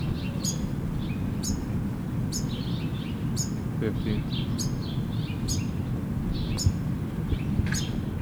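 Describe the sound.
Finches chirp in short, high, bright bursts roughly once a second, steady and repeated behind a person speaking throughout, with a low rumbling noise bed underneath.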